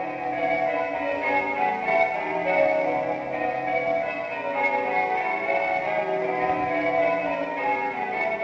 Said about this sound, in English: The sound of London, the sound of those Bow Bells. And this week in 1963, Handel's Water Music replaced Bow Bells as the opening theme for the BBC Home Service.